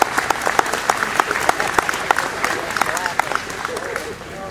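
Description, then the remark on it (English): An audience at a Friday night event in downtown Shelby County, Sydney, breaks into steady applause, many hands clapping in a dense, continuous patter that holds at a fairly loud level throughout, with a few sharper individual claps standing out and murmuring voices underneath. “I tell you what, let's just give Shelby County a round of applause for being, most of you are here, right here tonight.”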